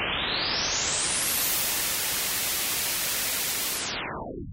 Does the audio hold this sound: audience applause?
no